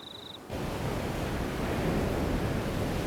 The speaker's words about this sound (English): Blue sea froths around the rocks in the cove.